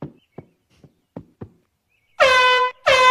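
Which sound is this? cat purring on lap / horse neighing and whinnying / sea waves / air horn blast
air horn blast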